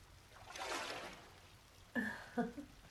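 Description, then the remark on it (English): A soft, steady rush of warm running water that someone is bathing in swells for a moment, then settles back into a quiet wash, with a few brief bursts of a voice near the end. “I'm having trouble hearing you over the sounds of the water.”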